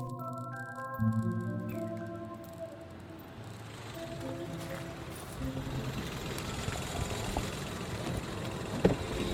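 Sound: car driving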